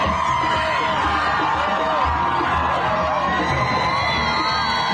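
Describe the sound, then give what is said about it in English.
A large crowd cheers and shouts continuously, with high excited voices, whoops and scattered laughter blending into a dense, loud roar throughout, as happy crowds along the roads leading to the Ram military base in Israel greet a convoy carrying freed hostages. “Convoy greeted by happy crowds along the roads leading to the Ram military base for a reunion with families.”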